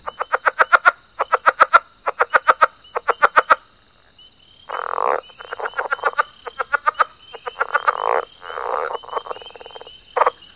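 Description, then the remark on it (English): A southern leopard frog, a medium-sized frog, calls: quick bursts of clucking pulses give way to harsh, chuckling croaks, with a thin, steady high-pitched drone running underneath. “The leopard frog is a medium-sized frog with a call that sounds like someone squeaking a wet balloon or someone laughing or chuckling.”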